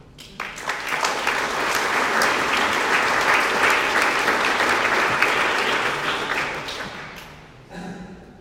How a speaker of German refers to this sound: Es sind alle Vorschriften eingehalten und dafür können wir der Gemeinde nur herzlich danken. Und dann geben wir noch einen Applaus.